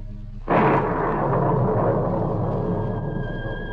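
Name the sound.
thunderclap sound effect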